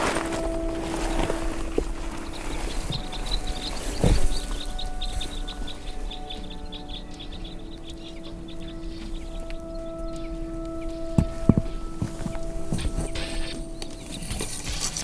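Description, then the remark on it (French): Birds flit overhead outdoors above a person sitting in the grass, their light chirps and flutters rising and falling over a steady background hum, with a few sharp knocks and rustles. “Je suis assis dans l'herbe Au-dessus de moi virevoltent donc ces oiseaux.”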